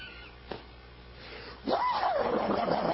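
A dog whimpers and whines at close range, a sustained high, wavering cry that begins after a short quiet pause with a single faint knock, with no barks and no talking.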